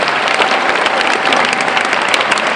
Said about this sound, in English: Big round of applause for Bettina.